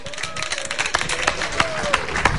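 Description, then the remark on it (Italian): A crowd applauds the defeated players, steady dense clapping with sharper bursts standing out, mixed with indistinct voices and a thin whistle-like tone drifting through. “No, beh, però devo dire che molto sportivamente hanno applaudito gli sconfitti.”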